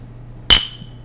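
household object, glasses clinking

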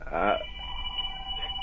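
household object, phone ringing

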